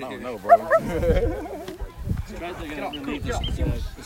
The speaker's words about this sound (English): Oh, this dog! These dogs are so cute. Hey, dog! Hey, Poochies!